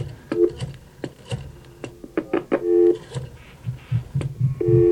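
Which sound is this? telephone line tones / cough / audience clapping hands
telephone line tones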